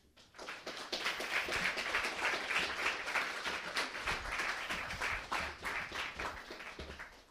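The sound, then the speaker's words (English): An audience at an event hosted by Cabinet breaks into sustained applause, many hands clapping in a dense, steady patter that swells quickly and holds at an even level for several seconds before tapering slightly. “So please, a round of applause for all concerned”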